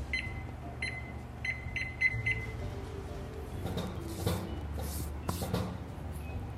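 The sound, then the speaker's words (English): Six short, high electronic beeps from a kitchen timer as it is set for 25 minutes while a pan of egg-washed dough rolls goes into a preheated oven, coming in a quick uneven series over a low background hum, followed by some soft clattering. “Okay, set a timer for 25 minutes.”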